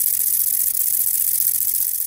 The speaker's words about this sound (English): The short-winged conehead has a very soft song indeed, and it almost sounds exactly like the wind blowing through the reeds.